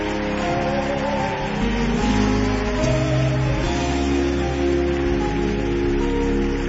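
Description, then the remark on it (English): A crowd applauds steadily, a dense, continuous wash of many hands clapping at once, with sustained musical tones humming underneath throughout. “Keep clapping until the last person is left.”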